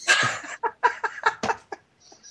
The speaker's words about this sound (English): Oh, man, that's a bird. I got a cockatiel, and he's in the kitchen on the fridge looking in the mirror. No, he's actually communicating.